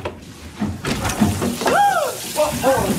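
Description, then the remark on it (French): A shower runs in a film scene with a steady hiss of falling water, while voices break in with short, rising exclamations over the spray. “Oui, alors là, c'est …, alias Gabi, qui vient de tomber nez à nez avec le sage-femme de sa mère sous la douche.”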